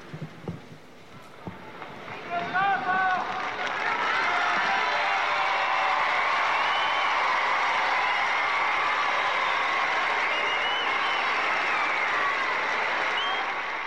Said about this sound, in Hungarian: Kedves hallgatóink, amint hallották, a mai napon is taps viharral köszöntötték a zarándokok a Szent Atyát, így vesznek tőle búcsút, és így veszünk mi is tőle búcsút ezen a mai napon.